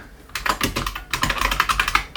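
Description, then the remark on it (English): Rapid, clattering keystrokes on a computer keyboard, loud, in an uneven burst with a brief pause near the middle before the typing resumes. “My keyboard is very loud”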